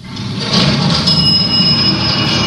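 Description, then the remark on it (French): An elevator running, a steady, fairly loud mechanical rumble with a thin, high-pitched whine riding on top, continuous throughout with no voices. “C'est un ascenseur.”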